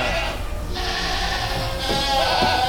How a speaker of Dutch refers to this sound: Oh, ze zijn best wel groot ook. Ja, dit zijn de fokbokken. Zo! Maar dat is echt een hele grote geit. Ja, dat is het. Hoeveel weegt die ongeveer? Dat is wel eentje van 100 kilo.